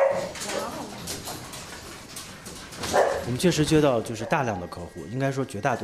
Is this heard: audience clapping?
no